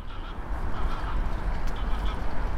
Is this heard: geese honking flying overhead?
yes